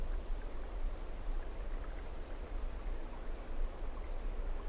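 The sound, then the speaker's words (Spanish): A steady, unbroken rush of water falling from a mountain, like a waterfall, with a dense hiss and a low rumble that never lets up. Scattered droplet-like ticks sit on top. No voices. “Muy poco a poco dejas que el agua que cae con fuerza pura de esa montaña comience a limpiarte.”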